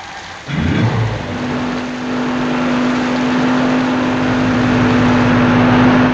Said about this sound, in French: Une fois le camion reparti sur les routes, abandonnant aux fermiers l'enfant chinois